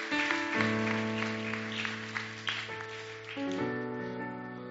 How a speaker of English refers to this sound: and we'll give her a hand clap and let her know we appreciate her and that we're praying for your future endeavors